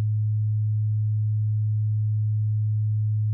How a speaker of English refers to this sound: In a moment, you'll hear a 100 Hz tone in your left ear.